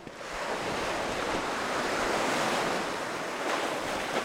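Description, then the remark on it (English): Ocean waves crash against a shoreline structure of large, fitted boulders in a steady, roaring wash of surf, loud and continuous with no separate breaks, mixed with some wind rush and no voices. “When the waves hit these rocks, instead of the rocks absorbing that force, it seems to direct that force backward into the next oncoming wave.”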